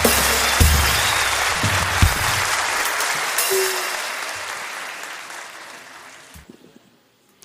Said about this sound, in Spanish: Un fuerte aplauso. Excelente.